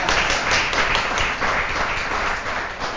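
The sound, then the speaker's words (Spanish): A crowd applauds steadily, a dense wash of many hands clapping at once with no pauses, holding a fairly even loudness throughout. “Un aplauso a ver si se resuelve.”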